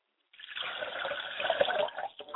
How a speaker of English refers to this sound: I pour libations to the south, and I say, from which we came as the Twa people, Ashe.